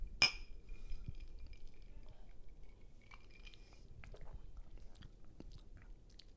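A single sharp clink of glasses of Macallan 12 whisky in a toast rings out at the start, its bright tone lingering briefly, followed by quiet background rustling and faint sipping or mouth sounds.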